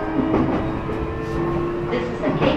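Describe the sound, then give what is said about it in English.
Steady rumble of a Keihin-Tohoku Line local train bound for Ofuna, heard from inside the car, with a humming motor whine and a muffled voice faintly in the background, continuous and fairly loud throughout. “この電車は京浜東北線各駅停車大船行きです。”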